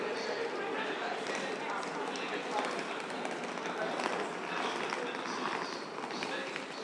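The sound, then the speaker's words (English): A muffled, echoing public address announcement on a railway platform announces the delayed 16:23 train to Reading at the start of the evening peak, its words unclear beneath a steady wash of station bustle and hurried footsteps. “Yep, they're announcing it now.”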